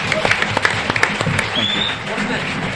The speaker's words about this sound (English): So should we give them a round of applause? Thank you all so much.